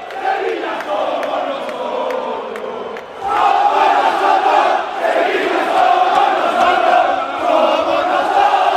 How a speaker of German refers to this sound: Hört euch das an. Die Mannschaft kommt in die Kurve und wird ausgepfiffen und niedergebuht.